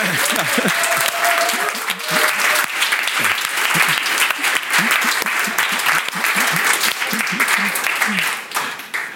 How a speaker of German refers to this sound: ja, wenn irgendwas ganz Besonderes passiert, was macht man? Da gibt man einen Beifall, einen Applaus, oder? Und wenn wir sagen, Jesus ist auferstanden, dann? Ja.